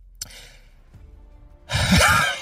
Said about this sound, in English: Just a yawn.